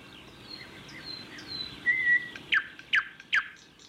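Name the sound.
bird singing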